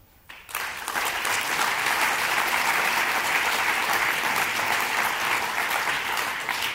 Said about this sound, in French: Nous sommes fiers de les accueillir à ce congrès, nous sommes fiers de les avoir comme partenaires, et je vous demande de bien vouloir les applaudir.